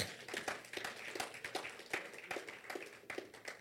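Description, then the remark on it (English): A group claps together for the Lord Jesus during a Bible reading, in a steady rhythm, sharp overlapping claps landing about twice a second at a moderate level, with no one speaking over them. “Clap for the Lord Jesus.”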